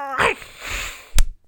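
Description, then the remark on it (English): A brief, strained yowl from Lady Macbeth, a cat, with a falling pitch gives way to a breathy hiss, then a sudden sharp burst of noise near the end. No one speaks. “Bad kitty.”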